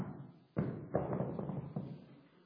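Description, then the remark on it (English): Heavy stomping thuds, five or six in a quick, uneven run, muffled and boomy as if on a floor, imitating a two-year-old thumping heavily after getting out of bed upstairs, as heard from downstairs in a two-story house. “And two-year-olds are like elephants when they get out of bed. And this is what we'd hear.”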